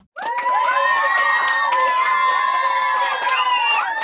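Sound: children applauding and cheering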